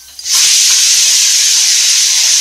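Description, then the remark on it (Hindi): A pressure cooker cooking khichdi of rice, dal and vegetables whistles, bursting into a loud, steady hiss of escaping steam after a brief quiet moment, continuing strongly and evenly without pause, with no talking. “और फिर बंद कर दिया कुकर, और कुछ देर में बजेगी सीटी।”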